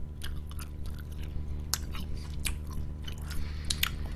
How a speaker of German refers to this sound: Rein damit. Erstmal ein bisschen kauen, erstmal geht's.